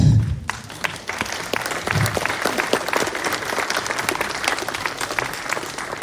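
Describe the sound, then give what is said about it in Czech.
An audience at a film talk applauds steadily as a guest is invited to the front, many hands clapping in a dense, continuous patter that holds at an even loudness for several seconds. “S potleskem klidně.”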